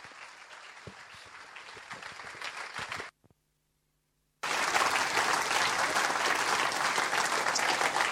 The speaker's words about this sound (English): I think you ought to stand up and give the Lord a great big clap and say, thank you, Lord, for the privilege of being part of that.